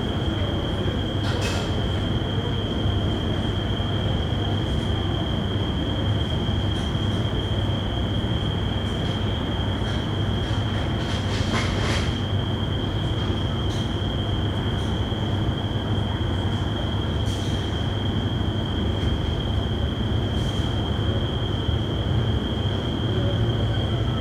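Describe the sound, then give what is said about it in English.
Cicadas chirp at night in Crete, in the Mediterranean, in one unbroken, high-pitched buzzing drone that holds steady throughout, layered over a constant low rumble with a few brief crackling bursts. “If there's one thing you can count on, it's cicadas at night.”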